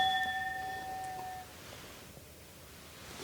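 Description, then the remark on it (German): A single bright clink of drinking glasses touching in a toast, its clear ringing tone fading out over about a second, followed by quiet ambience with no talking. “Ich finde das Geräusch von diesem Glas.”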